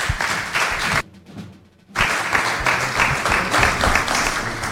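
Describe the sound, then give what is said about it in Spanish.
A crowd applauds with dense, steady clapping, broken by a brief near-silent gap about a second in before the clapping resumes at full strength, welcoming a Canal Sur Televisión colleague to the table at a radio event. “le pedimos que venga para acá, para la mesa, y le damos un aplauso también.”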